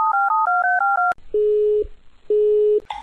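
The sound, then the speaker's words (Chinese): A quick run of keypad dialing beeps, followed by two steady, evenly spaced tones on the phone line as the call rings through, with no voices. “大师，大师，这个电话打到什么时候才会有人接呀？”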